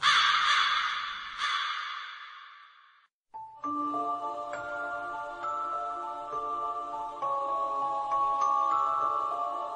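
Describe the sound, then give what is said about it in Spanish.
A crow gives a few harsh, raspy caws at the start, then falls silent as sustained chime-like musical tones take over for the rest. “Estás entrando en la posada del cuervo.”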